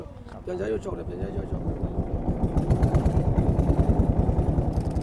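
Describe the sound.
A boat's motor chugs on Inlay Lake in a steady, rapid putter that grows slightly louder and stays prominent throughout, after a brief voice near the start.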